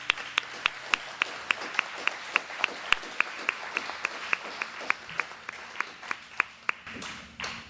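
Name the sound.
audience hand clapping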